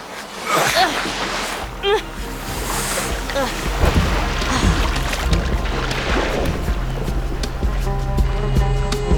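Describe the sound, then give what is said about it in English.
A rowboat moves steadily through water, with continuous sloshing and splashing from the oars over a low rumble, and faint muffled voices in the background. “You want me to get in the rowboat?”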